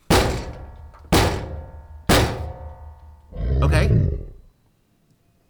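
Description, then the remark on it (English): Three heavy, booming thuds as a bipedal creature in a forest setting strikes a door about a second apart, each ringing out, followed by a rough, growling roar and one more thud at the very end; the door holds. “Okay. The door's holding.”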